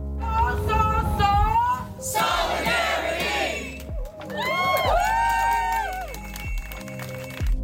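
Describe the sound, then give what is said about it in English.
A lively crowd at a teach-in in front of Richardson Hall on Friday, where professors delivered lectures, shouts and cheers loudly throughout, many voices overlapping in rising and falling yells, with a brief dip in the noise midway before the cheering surges again. “Professors and various faculties delivered impassioned lectures before the lively crowd at the teach-in in front of Richardson Hall on Friday.”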